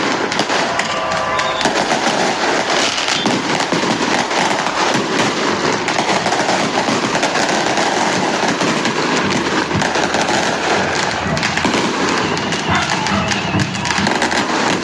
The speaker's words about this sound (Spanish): Usted lo escucha, ¿no? Esos son los fuegos artificiales que se han dado durante las últimas horas a vista y paciencia de los de la policía.